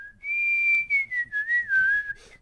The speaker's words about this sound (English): It's ET music. It's space music. Technically, Earth music, I guess.